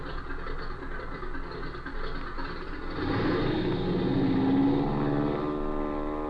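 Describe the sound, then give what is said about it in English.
A propeller plane engine drones steadily, then swells louder and rougher around the midpoint as it revs up for takeoff, with a rising tonal whine and no voices. “we're climbing into that aircat and getting back to Springfield so that I can do some checking up.”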